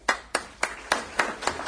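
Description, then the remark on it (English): Slow applause made of about six sharp, evenly spaced hand claps, each a crisp slap with a quick fade, at a steady moderate loudness with no voices. “I can't even applaud with these.”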